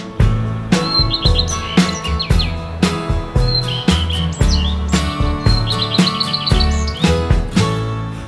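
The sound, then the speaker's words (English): A bird chirps in quick bright trills and short tweeting runs, repeated several times over a steady, bouncy musical backing with a strong beat. “Wave your wings, fly over bird's nest, say hi to the bird. Hello, bird.”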